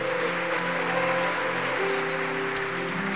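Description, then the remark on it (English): An audience claps their hands one more time after a testimony, in a steady, dense wash of applause that continues throughout, with sustained organ-like tones holding underneath. “Why don't you clap your hands one more time?”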